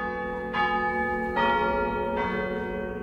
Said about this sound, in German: Also es macht wirklich Laune, besonders an der dicksten Glocke zu ziehen und die richtig zum Klingen zu bringen. Also es macht mir richtig Spaß.